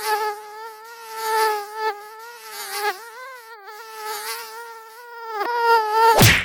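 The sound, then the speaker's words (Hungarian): A high-pitched mosquito whine drones continuously for several seconds, its pitch wavering slightly as it hovers, then cuts off abruptly with a sharp burst of noise. “A műsorszám szúnyog megjelenítést tartalmazott.”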